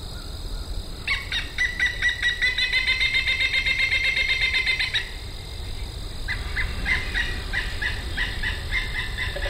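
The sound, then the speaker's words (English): Recorded bird calls play back loudly from a CD player and a disc of bird calls: a long burst of rapid, harsh, gobbling calls, a brief pause, then another quicker series of choppy calls over a low background rumble. “pulls out a CD player and a disc of bird calls.”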